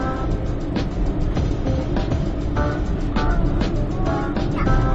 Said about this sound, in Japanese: これはピンポンバスね。え、すごいね、大きいの来たね、バスね。